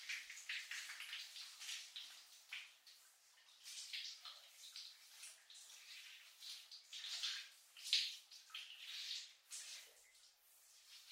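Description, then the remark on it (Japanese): A shower runs steadily for several seconds as someone is rinsed off, its hissing spray rising and falling as the water splashes unevenly, with no voices. “じゃあシャワーで洗い流しますね。”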